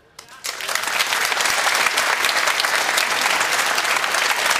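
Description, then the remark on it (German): An audience bursts into sustained applause for the view that a football incident was a clear penalty, a dense, steady wash of many hands clapping that rises quickly after a brief quiet start and stays loud throughout. “Da kriegst du natürlich Applaus hier, ist ja klar, weil es die allermeisten Fußballfans auch so sehen.”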